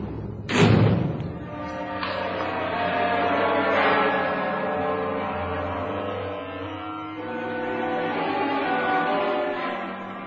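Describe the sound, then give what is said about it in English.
A heavy steel cell door slams shut with one loud bang, followed by a long, resonant metallic ringing and echo that lingers for several seconds. No one speaks. “Arthur stared at the steel door that separated him from freedom”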